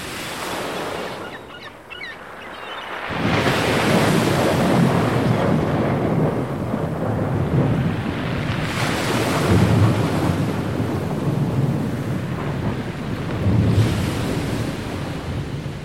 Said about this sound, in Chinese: 在一个狂风怒吼的晚上，强烈的风暴卷走了一艘渔船。